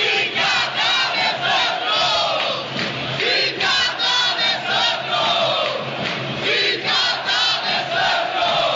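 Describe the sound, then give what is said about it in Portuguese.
A large crowd of Internacional (Inter) football fans at a Copa Libertadores match chants "Viva D'Alessandro!" in unison, a loud, rhythmic, repeated call with pulsing beats that rise and fall steadily, filling the whole clip without any single clear voice. “Naquela noite, a torcida se uniu em torno de um só pedido.”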